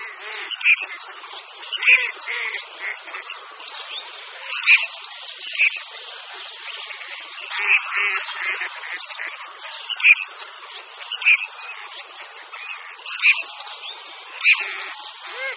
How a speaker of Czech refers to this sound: Zrzohlávka rudozobá, jejíž hlas jsme právě slyšeli, rozhodně nezapře své jméno.